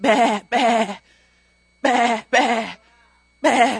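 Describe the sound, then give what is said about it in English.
Sheep bleat loudly, five wavering cries coming in pairs with short silences between, then a final single bleat. “I hear another sound of sheep.”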